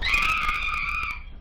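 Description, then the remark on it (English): A single loud, shrill scream held for about a second before trailing off, heard alone without any talking, over a faint low rumble. “enough with the screaming.”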